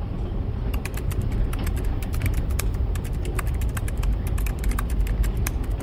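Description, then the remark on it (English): Rapid, irregular clicking of laptop keys as a passenger types steadily on a train, over a constant low rumble of the train's wheels rolling on the tracks. “When you type on your laptop like that, it disturbs the other passengers in the car.”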